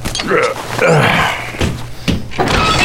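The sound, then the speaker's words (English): A few soft, muffled knocks on a door, spaced unevenly, come after a moment of faint breathy vocal sounds and low background hum. “There was a quiet knock at the door.”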